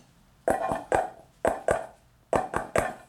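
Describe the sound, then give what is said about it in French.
A neighbour raps his coded knock on a door: three quick knocks, a pause, two knocks, another pause, then three more. The knocks are sharp and hollow, with no voices. “Parce qu'en fait, il a mis un code pour frapper à la porte.”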